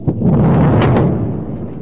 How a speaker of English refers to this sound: The impact of the explosion can be felt from a vantage point nearly 4 miles away.